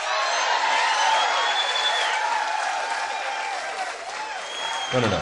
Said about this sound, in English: Not too much applause, please. Please.